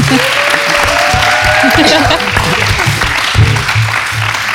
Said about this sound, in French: C'est la fin de cette émission. Merci à tous, vous êtes trop bien, mais applaudissez, allez-y.